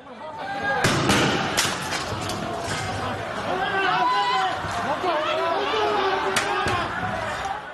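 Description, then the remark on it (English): Several sharp, booming tear gas launcher shots fired by police ring out amid a noisy street crowd during protest street battles in Hong Kong, with overlapping shouting and agitated voices filling the scene between the loud, irregular bangs. “bombs and police fired tear gas in street battles across the city.”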